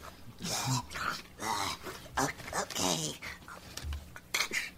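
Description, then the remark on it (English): Metal hand shackles clink and rattle as they are put on, in a string of sharp, irregular jangles, with low throaty vocal sounds and grunts mixed in between the metallic hits. “put on the hand braces. Clink, yeah. clink.”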